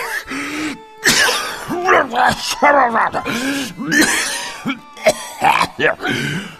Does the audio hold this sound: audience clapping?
no